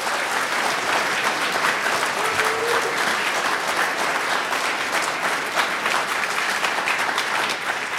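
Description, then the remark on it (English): A crowd applauds steadily for the full eight seconds, a dense, even wash of many hands clapping at constant loudness with no voices breaking through. “It's awkward to ask people to clap for a global pandemic.”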